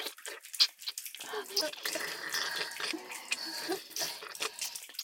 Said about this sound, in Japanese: ねえ、聞こえますでしょうか。私の手と二人の口からとてもいやらしい水音が聞こえてくる。